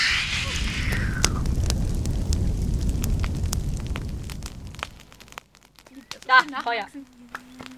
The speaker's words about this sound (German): Drache, mach mal ein wenig Feuer.